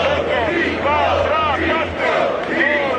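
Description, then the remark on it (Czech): A crowd of tens of thousands of Hungarians at the Peace March, a mass pro-government march in Budapest, Hungary, organized by Viktor Orbán, roars and chants steadily, many voices overlapping in loud, swelling cheers with rising and falling shouts, no single speaker standing out. “Desítky tisíc Maďarů, Maďarek křižovali Dunaj v Budapešti v posledních dnech na té velké masové provládní akci nazvané Pochod míru.”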